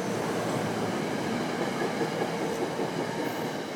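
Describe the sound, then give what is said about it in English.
A train rumbles steadily past at a station, a dense, continuous roar of wheels and rail noise filling the whole stretch without letup, with no voices heard. “There's your train.”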